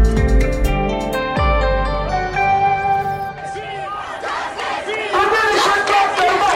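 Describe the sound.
A street protest crowd chants and shouts, many voices rising together loudly. It opens with two deep booming thuds under sustained tones, then the massed yelling swells and continues.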